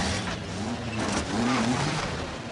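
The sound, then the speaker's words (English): A bus engine revs as Nicholson's character drives off in a stolen bus in a film escape scene, a loud continuous drone whose pitch climbs and wavers over a rough, rumbling background. No voices are heard. “From the moment Nicholson escapes, climbs over the fence, shimmies down the tree, steals the bus.”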